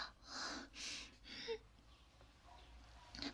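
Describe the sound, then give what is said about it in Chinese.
Soft snoring from someone in a deep sleep: three breathy, rasping breaths in a slow, steady rhythm, then a quieter stretch of faint breathing near the end. “是的，他现在这是很熟呢，都有点打呼噜的迹象了。”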